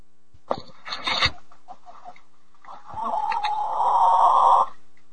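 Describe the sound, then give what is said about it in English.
A laying hen calls out: a quick burst of harsh clucks, then after a brief pause a longer, drawn-out squawking cackle that grows louder before cutting off. No one speaks. “I've heard it through headphones, but let's just find out, because this is an egg-laying hen right here, okay?”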